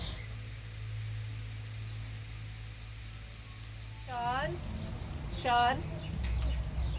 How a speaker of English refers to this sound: Did you hear all the birds? Oh my God. So many birds.